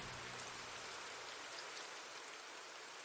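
Steady rain falls continuously, a dense, hissing wash of drops pattering on a surface, even in loudness throughout, with no voices.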